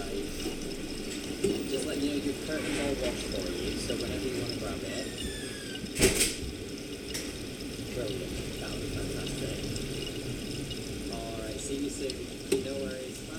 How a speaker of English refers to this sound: And with my fancy microphone, at some points, it actually sounds like you're inside the washing machine.